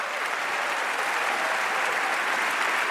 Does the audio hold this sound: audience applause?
yes